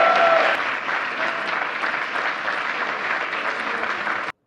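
Loud, sustained applause from a sizable crowd for this year's Presidential Freedom recipient, a dense wash of clapping that holds steady for several seconds before cutting off abruptly.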